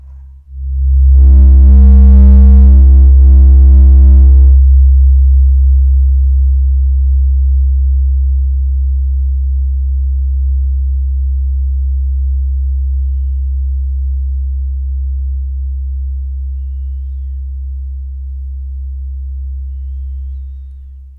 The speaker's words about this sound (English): Have a dragon purr. I'm I'm just looking at that on the speakers. I think I have to slightly move the position of the tuning forks.